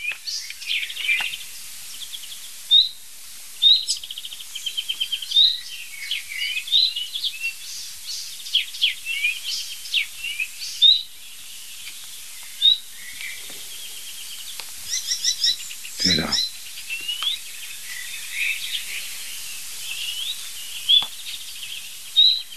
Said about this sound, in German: Nein, das ist die Nachtigall. Na super. Ich war zu schnell, er hat aufgehört.